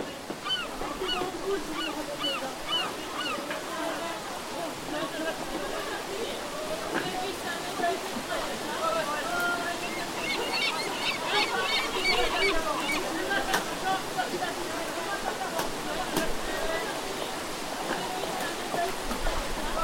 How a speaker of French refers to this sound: Manifestement, les mouettes remontaient la scène, ce qui est toujours le cas quand on tend l'oreille. C'était peut-être plus facile de les distinguer à l'époque.